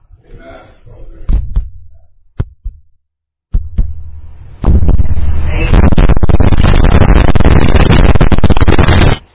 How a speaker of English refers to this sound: This time the sheep hears the heartbeat of the shepherd. He's never been that close before.